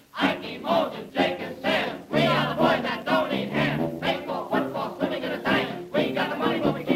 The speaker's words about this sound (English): Now here is a cheer that has plenty heart, so give him everything you've got.